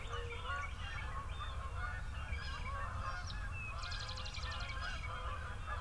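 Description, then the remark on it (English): Two large flights of Canada geese, one of about 30 and the other of 50, honk continuously overhead heading back north, many overlapping calls forming a dense, clamorous chorus over a low steady rumble, with a brief trill of a smaller bird near the end. “That's two large flights of Canadian geese.”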